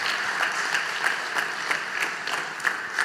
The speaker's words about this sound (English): Let's applaud for these guys. Let's clap their own for them.